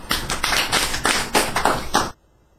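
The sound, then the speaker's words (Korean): A short burst of applause from a small group, a quick crackle of claps with a few louder peaks, lasting about two seconds before cutting off abruptly into silence. “자 박수래요.”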